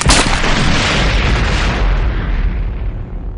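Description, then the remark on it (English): A speeder bike flips in the air, tumbles out of control and smashes through the wall of a distant building at roughly 200 kilometers per hour with one sudden, loud impact, followed by a dense roaring rumble of crumbling debris that slowly thins out over a few seconds. “But before he could fire, the speeder bike flipped in the air, tumbled out of control, and crashed through the wall of a distant building at roughly 200 kilometers per hour.”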